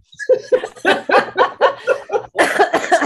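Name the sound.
coughing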